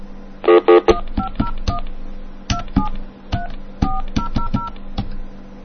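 Touch-tone keypad dialing: a quick series of short, clear beeps pressed at an uneven pace, each tone with a faint click, over a low steady hum. No one speaks.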